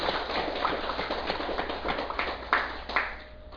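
An audience at a Buddhist dharma talk applauds at the speaker's request in a dense, steady patter of many hands clapping, with a few sharper claps standing out toward the end before the sound thins and fades.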